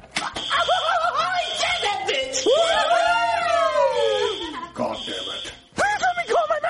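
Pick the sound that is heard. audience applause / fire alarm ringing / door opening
fire alarm ringing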